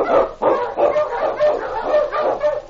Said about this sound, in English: On King! On, you huskies! The Wonder Dog King, swiftest and strongest of Eskimo lead dogs, blazes the trail through storm and snow for Sergeant Preston as he meets the Challenge of Yukon.